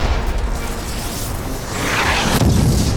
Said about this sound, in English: felt the shockwave of the explosion as it slammed into the right side of his abdomen and dislodged snow tumbled past him as it slid down the slope.